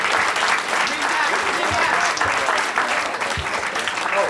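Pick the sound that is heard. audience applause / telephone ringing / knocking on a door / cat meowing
audience applause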